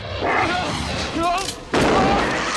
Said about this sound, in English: Hearing gunshots, Rhonda looks over at the little house. Heather and Bert fire repeatedly at the creature.